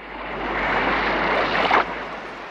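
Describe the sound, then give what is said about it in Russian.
Sea waves wash steadily on a slightly rough sea, a continuous broad rush with wind, swelling briefly to a louder surge near the end before settling back. No voices. “Вот пошел он к синему морю, видит, море слегка разыгралось.”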